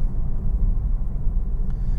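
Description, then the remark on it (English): A steady, deep engine rumble fills the whole stretch as a Porsche car runs at constant speed, heard from inside the cabin, with dense low-end drone and no talking. “So, having a ball with this car.”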